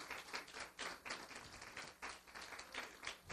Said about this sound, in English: I just praise God. Give him a clap. Give him a praise.